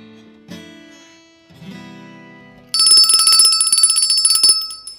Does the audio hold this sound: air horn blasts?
no